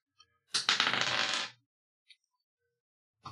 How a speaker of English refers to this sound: Roll that dice.